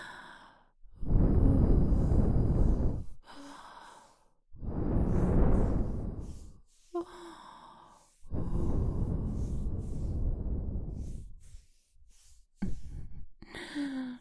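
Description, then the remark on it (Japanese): Three long, soft breaths are blown into the ear, each a breathy rush of air lasting a couple of seconds, with short quiet pauses and faint small sounds between them. “こちらの耳にも吐息を。”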